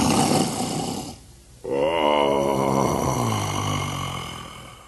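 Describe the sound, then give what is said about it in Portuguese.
A deep, loud snoring sound of the giant Furacão, asleep after drinking too much, with a raspy breath, a brief pause, then a long rumbling, groaning snore that wavers in pitch. “Polegar, assim que ouviu os roncos do Furacão, fugiu carregando a chave da gaiola do porão.”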